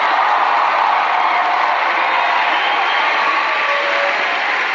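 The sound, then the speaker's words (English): A large crowd cheers in a loud, steady roar of many voices that holds at an even level for the whole stretch, with no single voice standing out. “Oh, this is a big crowd.”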